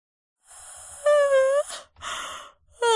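A loud, drawn-out yawn, breathy at first and then voiced with a sagging pitch, followed by a rushing exhale and the start of another groan-like stretch, close to the listener with no talking.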